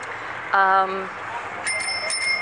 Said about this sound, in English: By the way, that bicycle bell, completely unnecessary. Two people have walked bicycles across the street and passed me, and this guy is like ringing his bicycle bell for absolutely no reason whatsoever